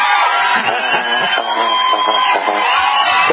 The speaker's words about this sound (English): Do you know you just got applause? We never give callers applause like that.